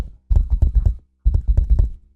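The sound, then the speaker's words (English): Imitated knocking at a door: two quick bursts of about five dull, low thuds each, separated by a short silent pause, fairly loud with no talking over them. “And then all of a sudden, we hear like a rapping at the door, like...”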